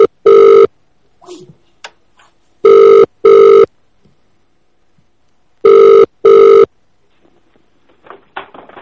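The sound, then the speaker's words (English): A telephone rings loudly with bright electronic trills, one ring, then two double rings separated by quiet pauses, with faint shuffling sounds in the gaps and no talking. “Will you just stop calling this number?”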